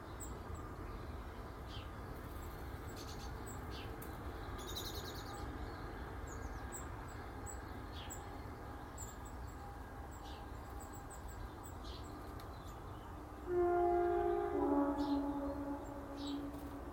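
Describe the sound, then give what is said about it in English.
A steady low rumble of a passing train fills the scene while birds chirp high above, then a loud tonal train horn sounds for a few seconds near the end. “That was almost as if that train driver knew what I wanted to have and thought to himself, no way, mate.”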